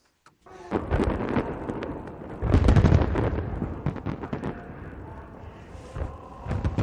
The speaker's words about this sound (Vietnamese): Những sự kiện kỷ niệm 73 năm ngày sinh của cố lãnh tụ Kim Jong-il đã bắt đầu với một màn trình diễn pháo bông ở Bình Nhưỡng.